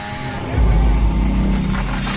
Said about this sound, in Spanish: ¿Y ese ruido que oigo qué es? ¿Una qué? ¡Una motosierra! ¡Máquinas que están cortando los árboles!